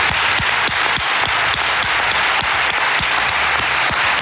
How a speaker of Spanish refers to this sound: Venga a aplaudir ahí, venga a aplaudir.